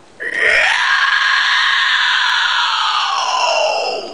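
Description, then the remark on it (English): A person lets out a long, loud, raspy screech imitating a pterodactyl, a single sustained harsh cry lasting about four seconds, strained with a gravelly, scream-like texture. “Here's my pterodactyl. Hopefully it doesn't get too loud.”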